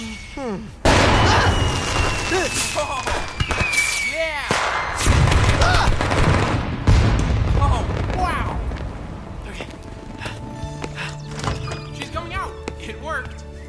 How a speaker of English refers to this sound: That was a really nice song and likely illegal fireworks show.